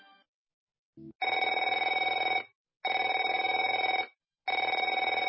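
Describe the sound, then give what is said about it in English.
A telephone rings three times in long, loud bursts with a buzzy, trilling tone, separated by short pauses. No one speaks. “Afraid to answer it? Afraid to answer your door?”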